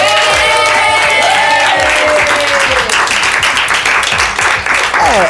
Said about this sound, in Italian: Dunque fatevi un applauso.